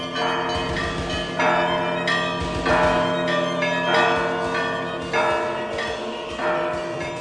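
Church bells peal in a steady, overlapping cascade, several strikes every second or so with long shimmering resonance, loud, with no voices.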